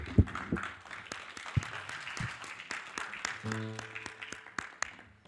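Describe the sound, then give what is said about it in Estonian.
An audience applauds steadily for several seconds in praise of God during a worship service, a dense crackle of many hands with occasional louder claps, while scattered voices and a brief sung or shouted tone rise through the clapping. “mul on südames, anname Jumalale vägeva aplausi.”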